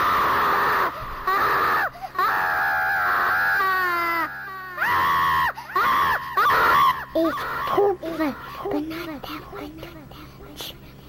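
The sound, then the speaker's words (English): A child screams loudly and shrilly, starting with long sustained wails, then breaking into shorter, choppy yelps and whiny cries toward the end. “I'm going in the potty, a talkie, and get embarrassed, so I'm going to scream.”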